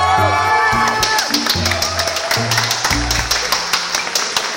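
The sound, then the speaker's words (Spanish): An audience applauds and cheers loudly, with dense, rapid clapping throughout and a few shouts or whoops rising above it. A low, stepping bass tone runs underneath the crowd noise. “Un momento, dejen de aplaudir”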